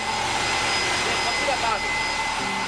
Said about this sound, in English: The plant uses steam from underground to generate power. I went inside one of the buildings where they had a turbine moving or spinning using the steam coming from underground. And it was spinning at a very high speed and it was incredibly loud.